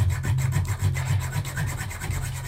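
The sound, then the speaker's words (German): A hand saw cuts through a wooden pole, its rasping strokes coming in a quick, steady back-and-forth rhythm with no one talking. “Komm, lass mal mich sägen.”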